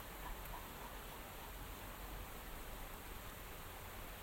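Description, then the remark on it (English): A steady, even hiss of light rain starting to fall outdoors at a bandstand above a beck, soft and continuous for the whole stretch with no distinct drops standing out and no voices. “And it's starting to rain.”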